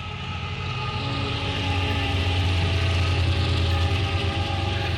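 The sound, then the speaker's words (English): A freight train rumbles past in Ashland, Virginia, a steady, loud, deep engine drone with grinding mechanical noise that holds constant throughout, with no voices. “Freight train going by in Ashland, Virginia.”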